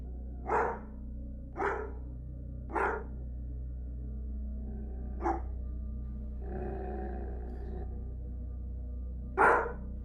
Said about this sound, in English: It was coming somewhere in the direction of the old metal railroad over there right in front of us, about 60 feet or so, maybe more. It sounded like there was some dogs being attacked or something.